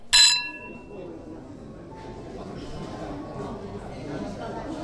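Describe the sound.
A sharp, bright clink of glasses touching at the very start, as people toast a friend being transferred overseas, ringing briefly before fading into a low murmur of voices talking.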